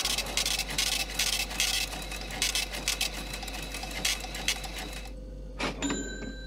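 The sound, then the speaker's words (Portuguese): A cash register ringing up a sale: several seconds of steady mechanical clattering and whirring, then a sharp thunk followed by a brief ringing bell tone, fairly loud, with no voices. “A máquina registradora emitiu seu som característico.”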